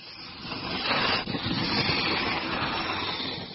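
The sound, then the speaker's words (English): A woman sketches with a pencil on paper, captured with highly sensitive microphones for a musical composition, in a continuous, dry scratchy hiss, strokes blending into one another at a steady, fairly loud level, with no voices. “She's sketching with a pencil.”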